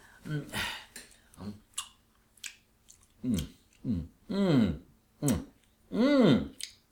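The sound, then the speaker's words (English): Exaggerated chewing of a mouthful of a meat dish, with rhythmic smacking bursts and voiced humming grunts rising and falling in pitch between bites, repeated about seven times. “You are supposed to chew it.”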